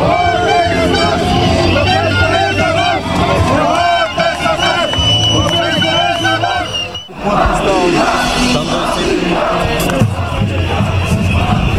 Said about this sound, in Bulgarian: Бързо редиците от протестиращи нараснаха и започнаха типичните за такива прояви скандирания.